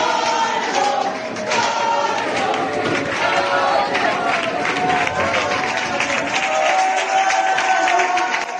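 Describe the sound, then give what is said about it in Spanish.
A large crowd of students and colleagues gives a sustained, roaring ovation at the farewell of a retiring philosophy teacher at the Instituto Alaitz in Barañáin, Navarra, dense clapping mixed with cheers and shouts, staying loud and steady throughout with no pause. “Y es verdad que el vídeo se ha hecho viral en toda la red porque la ovación que ha recibido este profesor ha sido monumental, como estás escuchando, no solo por parte de los alumnos, sino también de sus propios compañeros.”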